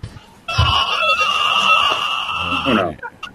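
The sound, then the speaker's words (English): A long, shrill scream from a video game rings out loud for over two seconds, holding a steady piercing pitch before cutting off abruptly. “I don't like that scream. That sounds haunting.”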